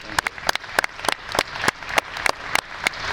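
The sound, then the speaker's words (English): Audience applause in Franklin for the legislators, a steady patter of many hands clapping with sharp, bright claps standing out every fraction of a second over a dense background of smaller claps. “So a huge round of applause for our legislators and local.”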